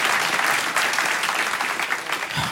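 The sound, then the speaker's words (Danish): An audience at a live show claps to show they have seen the film Gladiator before, many hands creating a dense, even wash of applause that holds at a fairly loud level for a couple of seconds without pause. “Klap, hvis I havde set den før.”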